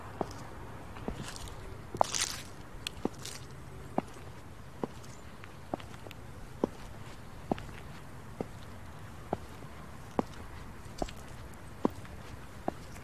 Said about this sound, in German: Begib dich also zurück in die Natur. Orientiere dich dabei immer am Rhythmus meiner Schritte.